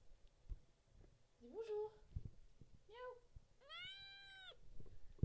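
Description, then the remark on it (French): A cat named Toast meows hello three times during a CITR 101.9 FM radio broadcast, short chirpy calls followed by one longer, drawn-out meow, with faint low bumps and rustling in the background. “Voici mon chat qui veut dire bonjour.”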